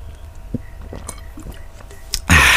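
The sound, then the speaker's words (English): Someone takes a drink with a few soft, wet slurping sounds and small gulps, then a sudden loud rush of noise cuts in at the very end. “Fuck, gonna need another sip of this crap to delve into this.”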